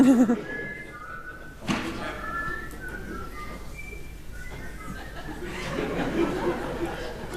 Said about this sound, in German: Okay, wer kennt diese tolle Melodie, die immer so gepfiffen wird bei bestimmten...